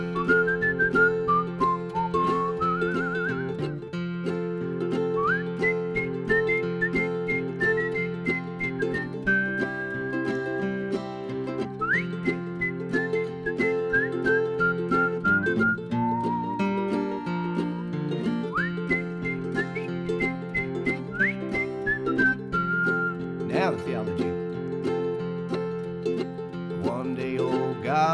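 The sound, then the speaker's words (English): A person whistles a bright, wandering melody in clear sustained notes and quick slides, carried over a steady instrumental backing that plays throughout the half-minute passage. “Now whistling.”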